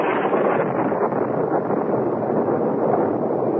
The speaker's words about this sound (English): Fury of a demon, a tropical storm broke, and huge waves lashed at the shore below us.